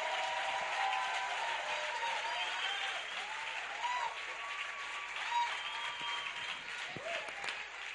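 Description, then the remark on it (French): A church audience applauds steadily for several seconds, welcoming a speaker with acclamation: dense clapping mixed with cheering and high whooping voices, loud and sustained throughout. “Donc, on reçoit ce micro, donc notre papa, le docteur mène ça au tabil qu'on va accueillir ici avec acclamation.”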